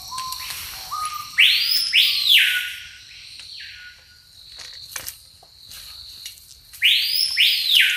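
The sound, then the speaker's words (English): A screaming piha, a little brown-grey bird that lives in the trees, calls twice. Each call builds up through softer, lower notes before bursting into a loud, piercing, high whistled phrase, with a steady insect buzz underneath. “This is called a screaming piha. It has a build-up to that high-pitched bit.”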